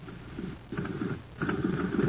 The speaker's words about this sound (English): Say, gang, talk about a putt-putt. Just listen to this jet cycle.